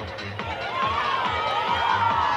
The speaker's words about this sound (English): And that cheer you hear is the Bulldogs doing the same.